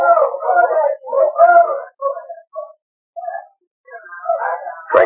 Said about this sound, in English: Mike awoke as he heard a dog team outside the cabin.